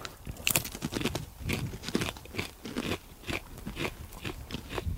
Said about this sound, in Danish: Jeg har puttet en helt kiks ind i munden.